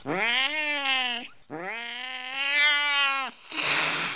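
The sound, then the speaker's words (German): A cat lets out two long, loud, drawn-out yowling meows in quick succession, followed by a short breathy hiss, with no talking. “In diesem Moment kam die Katze wieder und wollte die Fee fressen.”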